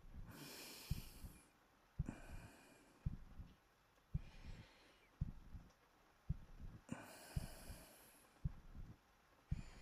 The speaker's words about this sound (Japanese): 俺の心音好き？